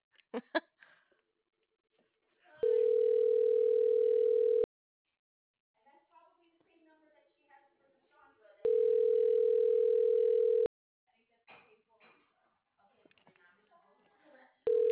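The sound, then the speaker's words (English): A phone ringback tone purrs steadily in two long bursts about six seconds apart, with soft, indistinct voices murmuring in the quiet gaps between rings. “We'll call Pedro.”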